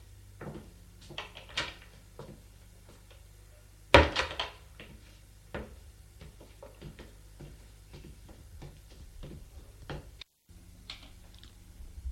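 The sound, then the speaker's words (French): A door is handled and shut as a man leaves a bedroom: scattered latch clicks and light knocks, one sharp loud slam, then softer clicks and thuds trailing off, with no one speaking. “Et il quitte la chambre.”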